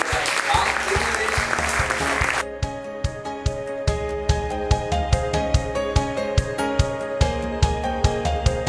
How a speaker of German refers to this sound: Also, jetzt sind ein riesen Applaus nochmal.